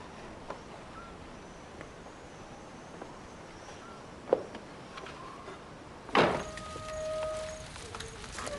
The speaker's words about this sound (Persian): دخترم بذار پنجره رو ببندم، سرما میخوری.